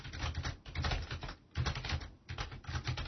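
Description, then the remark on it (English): Steady typing of a line of text into a text control on a computer keyboard, a quick run of clicky keystrokes that pauses briefly twice before carrying on, with no voices. “I'll type some text into it.”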